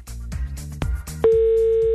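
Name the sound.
telephone dialing tones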